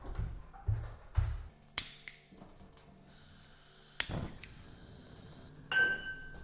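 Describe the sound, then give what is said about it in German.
Old metal pots clink and clatter in an old apartment, in several sharp, ringing knocks spread unevenly over a few seconds, with bright metallic overtones lingering after each hit and quiet gaps between. “Die alten Töpfe.”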